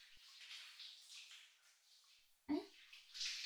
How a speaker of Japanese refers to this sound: え、何かおっしゃいましたか？シャワーの音でよく聞こえなくて。